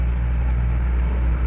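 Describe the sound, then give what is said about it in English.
An old Hupmobile car engine runs steadily at a low, throbbing idle, a continuous rumble with a faint hum on top and no voices. “But this was an old Huffmobile.”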